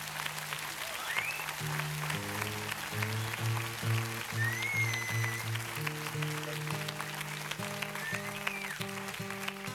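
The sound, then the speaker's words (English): A crowd applauds steadily and continuously for the whole stretch, with a few whistles cutting through and low instrumental notes playing underneath the clapping. “That you either you've been like you or that you paid to clap, you know.”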